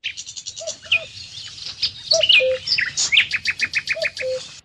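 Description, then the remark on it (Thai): Small birds chasing each other on tree branches chirp and call together in a busy, overlapping chorus of high, quick notes and short trills, with rapid repeated tweets running throughout and no talking. “เสียงนกเล็กๆวิ่งไล่จับกันและส่งเสียงร้องด้วยความชื่นบานบนกิ่งไม้เขาเคยมองดูและฟังเสียงมันด้วยความนิยมชมชื่นแต่บัดนี้มันเป็นของแสลงสำหรับเขา”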